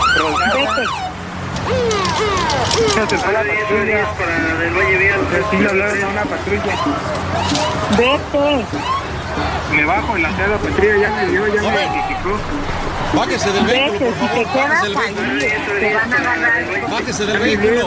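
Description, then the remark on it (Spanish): A crowd of people gathered outside, surrounding a person, many voices talking and shouting over one another in a loud, continuous babble that never lets up. “Es que la gente ya está aquí afuera, la gente ya me está rodeando.”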